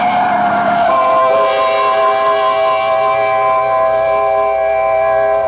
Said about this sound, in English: Mildred, look out! The truck! Look out for the truck, Mildred!